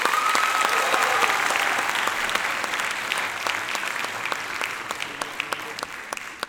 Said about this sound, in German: Statt zu jammern und zu klagen, könnten wir den selbstermächtigenden Effekt des Klatschens auf uns einwirken lassen und einfach mal wieder entspannen. Hier, versuchen Sie es mal.